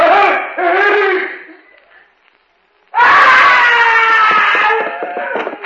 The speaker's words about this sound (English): I heard a scream.